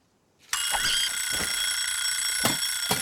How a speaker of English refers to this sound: Woodstock smacks an alarm clock.